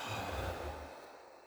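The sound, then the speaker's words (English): A single long, deep exhale, breathy, with a soft airy rush that gradually tapers off toward the end, during a guided deep-breathing exercise. No one speaks. “And all together, you can take 3 deep breaths. Breathing in and letting go.”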